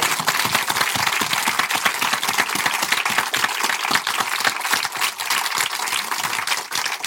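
An audience applauds steadily for about seven seconds, many hands clapping in a dense, crackling wash that stays fairly loud and even throughout, with no voices rising above it.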